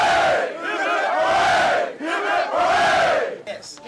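A group of voices shouts cheers in unison, loud rising-and-falling hurrahs repeated in quick succession, with no one speaking separately.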